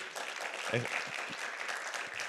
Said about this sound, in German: Habe ich nicht eine mega weise Frau? So eine weise und gesalbte Frau. Ja, ich darf dir einen Applaus geben.